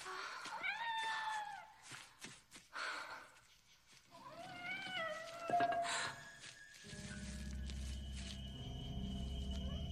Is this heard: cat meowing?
yes